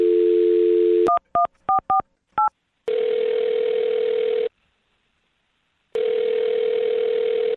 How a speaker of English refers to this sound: I'm going to dial the phone number and get your second date update, okay?